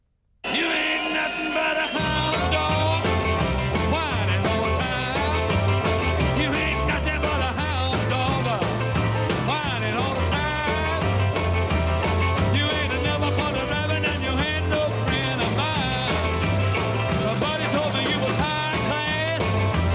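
A live rock and roll song with piano bursts in after a brief pause, loud and driving throughout, with a steady thumping beat, raw shouted vocals and crowd noise.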